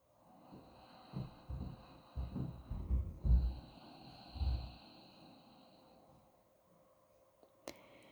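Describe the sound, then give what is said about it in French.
Soft, slow, calm breaths drawn through the nose during a guided breathing exercise, quiet, fading into near stillness, with a faint steady hum lingering in the background and a small click near the end. “Respirez par le nez, paisiblement.”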